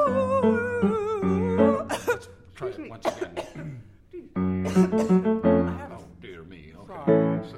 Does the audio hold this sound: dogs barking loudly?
no